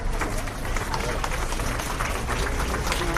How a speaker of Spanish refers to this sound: El último aplauso, la salida del funeral de tantos que cosechó a lo largo de su inmensa carrera.